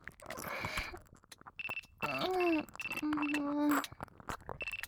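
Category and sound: signal or alarm, phone ringtone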